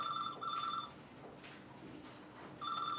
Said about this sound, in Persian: این تلفن خودشو کشته، میخوای جواب بدی؟